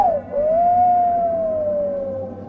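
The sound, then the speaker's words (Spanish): A long, eerie whistle sounds from afar across a dark farm at night: a single sustained tone that dips at the start, then swells and slowly sags in pitch over a couple of seconds, with no voices. “Así me entretengo por unos 15 o 10 minutos hasta que nuevamente suena ese maldito silbido a lo lejos.”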